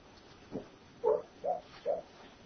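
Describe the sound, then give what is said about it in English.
One of the household's dogs, having a nightmare or a dream, lets out soft, muffled woofs while asleep: a faint first one, then three short, evenly spaced barks, fairly quiet, with no talking. “One of our dogs is having a nightmare or something, or having a good dream. You never know with dogs. Start barking and running in their sleep.”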